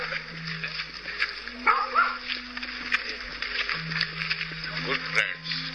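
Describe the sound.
A dog barks and yips in a few sharp, scattered bursts over a busy, noisy background with a steady low hum, with voices faintly mixed in.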